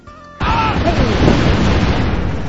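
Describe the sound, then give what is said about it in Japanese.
After a brief faint hum, a sudden loud cannon sound effect, triggered as a comedic retort by typing a chat command, erupts and rolls on as a dense, rumbling roar for about two seconds. “激しくツッコミに飛んできてますが、あ、ちなみにこういったツッコミしたい方は IRC に入っていただきますと、アットマークの後に大砲とか、サスとかテーとかいろいろツッコミ入れることできますので、ぜひぜひ IRC もご利用ください。”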